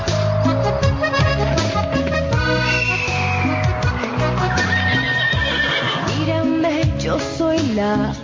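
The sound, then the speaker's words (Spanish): A horse neighs faintly in the background, a brief whinny rising over a dense, loud musical track with steady tones and a hoof-like clopping rhythm; no one speaks. “Oigo un caballo de fondo.”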